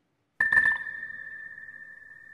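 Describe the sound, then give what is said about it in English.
Electronic beeps marking runners' finishes in a comparison of Jesse Owens and Usain Bolt, with Owens as the second beep rather than the last: a quick cluster of sharp, overlapping beeps, then a single steady high-pitched tone that holds on, fairly loud, with no talking. “Rather than the last beep, Owens would have been the second beep. Listen to it again.”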